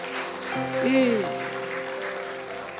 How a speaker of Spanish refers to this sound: Denle un aplauso a Dios por eso. Reciba eso, por favor. Gracias. Fuerte ese aplauso.